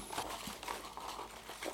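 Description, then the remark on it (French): Soft crinkling and rustling of paper, a few brief crackly bursts as a small slip drawn from a box in a lottery draw is unfolded, heard alone without any talking. “Alors, j'ai un papier.”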